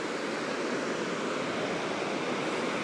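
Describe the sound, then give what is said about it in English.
A steady, dense rush of water pours continuously as the River Derwent in Derby spills over a weir, heard from a bridge linking the river's west and east banks, looking south towards the weir, with a broad hiss and no breaks or voices throughout. “So I'm now walking across the bridge, and I'm stood right in the centre, looking down the flow of the river southwards towards the weir here.”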